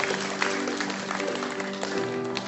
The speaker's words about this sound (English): Come on, let's hear some applause for Jesus.